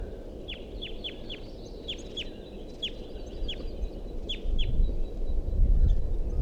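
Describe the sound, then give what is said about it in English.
A series of high, thin, downward-sweeping begging calls from nestling birds in a nest tree repeats in an uneven rhythm, about ten calls, over a steady low rumble of background noise. “And there continues to be a begging call sound from the nest tree, which I thought there was a nest in before.”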